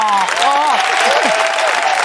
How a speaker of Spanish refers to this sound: Que no pare el aplauso para recibir a ….